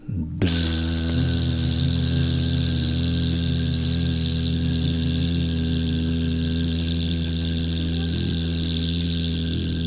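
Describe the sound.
A person hums a long, steady, loud buzzing tone on one continuous exhale, doing bee breath with hands cupped over the ears; the drone holds an even pitch for nearly ten seconds with no talking.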